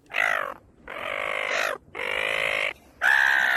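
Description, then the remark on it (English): Seagulls squawk loudly as they swoop down at Dampier Beach in Western Australia at sunset: four harsh, raspy calls in quick succession, the middle two drawn out, with no other sounds around them. “Those pesky beach-trodden seagulls swooped down and photobombed them in the worst way.”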